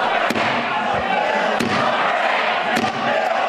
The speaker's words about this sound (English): It led to a loud confrontation with Republicans, including when House Speaker Paul Ryan tried to bring the House to order, banging the gavel.